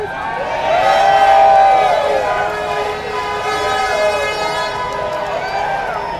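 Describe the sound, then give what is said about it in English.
A large crowd of union workers at a labor rally in Alabama, held during a mine workers' strike, cheers and roars continuously, with loud, sustained wavering tones rising and falling above the din, like whoops or horns, swelling early and staying strong throughout. “I want this to be the biggest, largest, strongest labor rally in the history of Alabama.”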